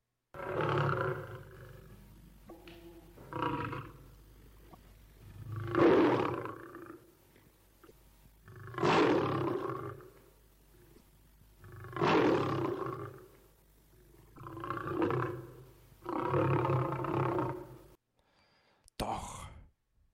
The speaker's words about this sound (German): So kam das Mädchen an eine Lichtung im Wald, und mitten auf dem Weg sah es einen mächtigen Bären im Mondschein. Und der Bär brummte böse.